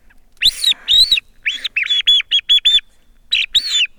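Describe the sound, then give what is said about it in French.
A homemade chioccolo bird-call whistle imitating birdsong, blown in a run of about ten loud, high, bright chirps, some drawn out and some short and clipped, in uneven bursts with no talking. “Questo me lo sono fatto io perché quando ho cominciato ad usare i chioccoli dovevo fare tanta strada per andare al lavoro e sì che dovevo guidare la macchina e allora per andare a pescarlo l'ho fatto così perché finché guidavo andavo là.”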